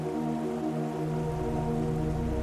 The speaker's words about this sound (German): Stell dir vor, es ist früher Morgen und du erwachst von einem kaum vernehmbaren Rauschen. Als erstes kannst du es nicht einordnen, dieses leise Glucksen, das sich nach Wasser anhört.